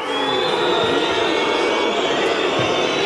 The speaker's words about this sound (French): Ça fait mal. Eh oui, les huées du Stade Bonal après la défaite hier du FC Sochaux-Montbéliard.